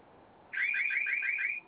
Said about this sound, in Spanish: Por favor, en cuanto empiece a sonar su sirena, ingrese la clave 2525.